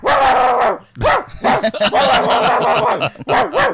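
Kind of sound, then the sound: animal, dog barking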